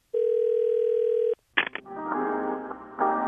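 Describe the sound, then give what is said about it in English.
A steady telephone dial tone hums for about a second as a phone call is placed, then cuts off. A few quick clicks follow, then a fuller, music-like tonal sound of hold music plays over the line. “And finally, let me make a quick phone call.”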